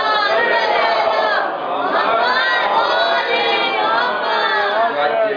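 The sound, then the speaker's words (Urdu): A large crowd chants loudly and continuously in unison, a dense wall of many voices reciting salawat together, rising and swelling slightly without a break. “محمد والے محمد بلند سلوات.”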